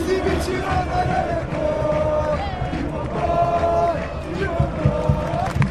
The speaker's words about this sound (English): Now, you see, I don't need a commentator to know what's going on there. Clearly, Galatasaray are on the attack. The home crowd is getting excited, but the attack has been snuffed out.